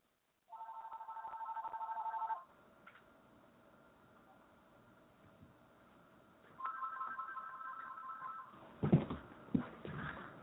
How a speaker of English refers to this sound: Excuse me, I had to stop the phone from ringing.